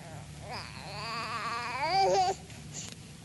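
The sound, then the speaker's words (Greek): A baby cries in a single wavering, rising wail lasting about two seconds, fairly loud, then breaks off into quiet whimpering, with a faint low hum underneath. “Όχι, όχι, δεν σε ξέρει, θα κλαίει.”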